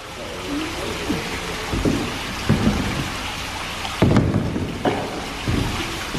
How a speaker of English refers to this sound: Yeah. I don't know where all this water's coming from.